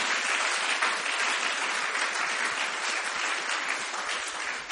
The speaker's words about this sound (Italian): Facciamo un forte applauso al Signore. Alleluia!